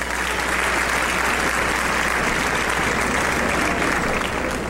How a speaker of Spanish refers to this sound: Bueno, para los que sí acertaron, ¡un fuerte aplauso!